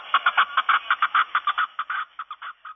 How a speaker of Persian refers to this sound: با صدای کپک و مرغان خوشخوان کوهستان به پایان رسید